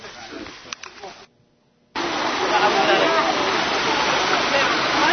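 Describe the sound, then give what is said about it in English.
River water rushes in a loud, steady hiss at a river where baptisms are held, cutting in abruptly after a brief silence. Before the gap, quieter noise with a few sharp clicks and faint voice-like sounds is heard. “Down to the river for the baptisms.”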